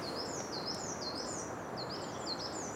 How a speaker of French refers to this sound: Mésanges juppées qui chantent un petit peu comme une bille qui rebondirait vite sur du carrelage. Là. Ça fait une vibration très aiguë. Elle nous passe au-dessus là.